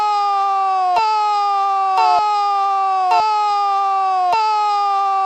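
A buzzy, harmonic-rich improvised siren, the second of two improvised sirens, holds a steady loud tone, dipping abruptly in pitch with a sharp click about once a second before jumping back up, repeating four times with no talking.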